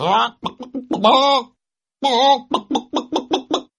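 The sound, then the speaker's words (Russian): A human voice imitates a rooster's crow while telling a Russian folk tale, with drawn-out, wavering calls, then breaks into a quick run of short, rhythmic clucks, fairly loud with no other sounds. “А петушок с печки.”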